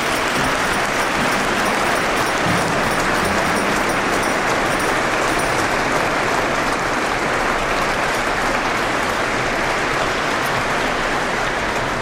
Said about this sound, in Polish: Wszystkim mieszkańcom Torunia, którzy dzisiaj przyjęli nas na nocleg. Tutaj bardzo proszę o głośne oklaski.